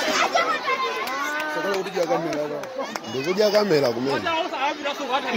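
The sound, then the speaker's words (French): A crowd of excited voices shouts and chatters over one another, with raised, wavering cries rising above the babble, continuous throughout; an altercation near a school in Mangochi district, Malawi, filmed on a mobile phone, with some people applauding. “Alors c'est tourné au portable dans le district de Mangochi, des altercations près d'une école, certains applaudissent”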